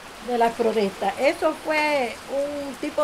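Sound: heavy pouring rain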